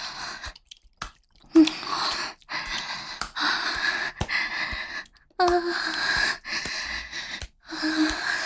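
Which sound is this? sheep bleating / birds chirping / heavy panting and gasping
heavy panting and gasping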